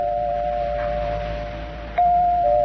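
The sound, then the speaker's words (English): An apartment doorbell buzzes in a long, steady electric tone, cuts out for an instant, then rings again slightly louder as someone keeps ringing it. No one answers or speaks. “I rang the bell. Kept ringing and ringing. No one answered.”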